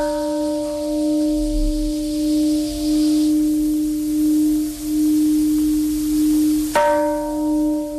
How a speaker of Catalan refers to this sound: Més de 50.000 persones de 120 països han participat al Parc Memorial d'Hiroshima en la cerimònia que ha començat amb el so de la campana de la Pau.